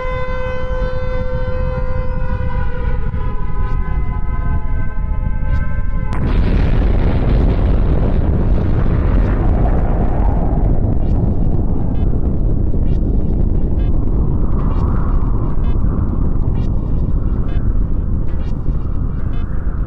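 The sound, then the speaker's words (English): A four-minute warning air raid siren wails in steady, layered tones for about six seconds before a sudden loud blast cuts in, leaving a continuous heavy roaring rumble. “Now, the four-minute warning is sounding.”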